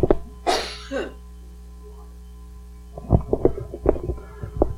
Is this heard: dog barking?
no